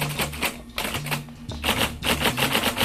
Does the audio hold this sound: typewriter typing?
yes